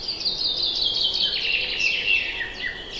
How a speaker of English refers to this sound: Oh, listen. Do you hear that melody? It's the birds singing their hearts out.